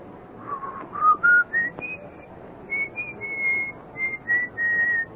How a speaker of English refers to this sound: a little after midnight, just after I'd gotten into bed, I heard it, the whistling. It was an old tune